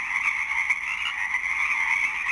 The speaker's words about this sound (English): Take care and enjoy this sound of the Pacific chorus frogs as they continue to sing through the night.